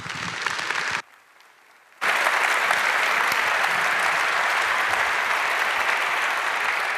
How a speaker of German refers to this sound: Bitte einen schönen Applaus.